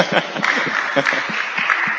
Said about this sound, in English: Hari Bol, everyone clap.